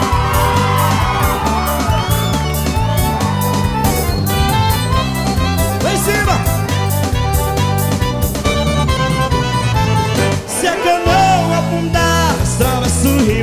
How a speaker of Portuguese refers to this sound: Cadê o grito da galera?